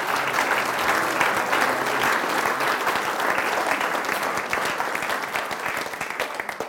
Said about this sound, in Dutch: Laten we de Heer even een applaus geven voor datgene wat hij gaat doen.